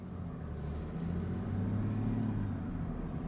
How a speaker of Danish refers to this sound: Til gengæld så kan jeg godt lige høre den her bulleren for den her 6-cylindrede dieselmotor. Og læg så mærke til, hvad der sker. Jeg trækker i D og træder på speederen.